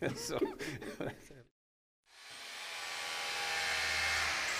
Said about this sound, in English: Well, the drill is going in now, and the endoscope will go through that. How far did you have to go in? We've gone in about 400 mil. Which is quite a fair distance.